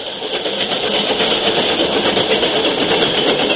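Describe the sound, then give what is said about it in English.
A recorded Rock Island railroad train engine runs steadily and loudly, a dense, continuous mechanical roar with a faint rhythmic pulsing throughout and no voices. “I borrowed from him a short manuscript which he had written, together with a sound record of Rock Island trains.”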